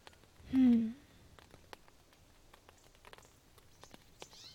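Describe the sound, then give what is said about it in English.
Light rain patters outside in scattered, uneven drips, soft, after a brief vocal sound at the start. “I can't believe it's still raining.”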